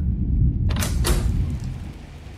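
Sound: back door being opened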